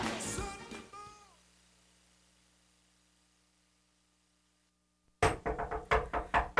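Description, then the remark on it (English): After a short burst of sound fades into near silence, a rapid series of loud, sharp knocks on a door rings out, about six raps in quick succession. “Lord, who is that at my door?”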